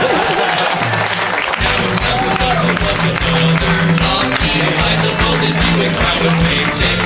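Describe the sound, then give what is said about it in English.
After a brief moment, loud audience applause breaks out and continues steadily to the end, a dense wash of many hands clapping with some crowd noise mixed in. “And you can give him a round of applause if you'd like.”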